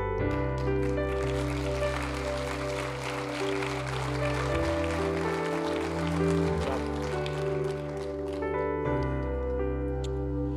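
A church audience, standing, claps steadily for about ten seconds for the preacher after his message, a dense, even wash of applause over sustained keyboard or organ chords that shift a couple of times underneath.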